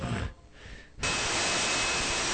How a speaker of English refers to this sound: Okay. Now there's static and You have to forgive. It's not the best setup. Yeah. Trying to scan through stations here.